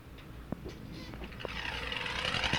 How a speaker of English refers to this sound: This is a spooky Halloween type sound effect. Yeah, you like that? With the chattering teeth?